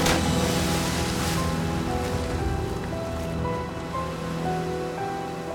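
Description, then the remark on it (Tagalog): A steady roar of sea waves surging and crashing, loud, with a swell near the start, while a soft sustained musical drone hums underneath, accompanying a reading of Jonah being thrown into the sea. No one speaks. “Gani, ginhakwat nila si Hunas, kagintagbong siya sa dagat.”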